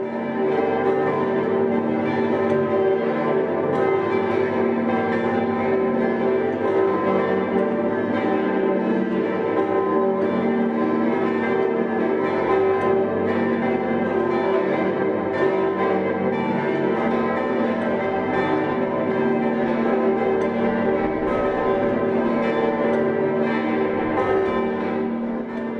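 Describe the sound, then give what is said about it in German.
A full peal of ten church bells, a recently expanded ensemble that is the country's third-largest, rings in Christmas together loudly and continuously, their overlapping tones forming a dense, shimmering wash of sound that sustains without pause and with no voices. “Das kürzlich auf 10 Stimmen erweiterte, nun drittgrößte Glockenensemble des Landes trägt voller Klangmacht die Frohbotschaft in die Weihnacht hinaus.”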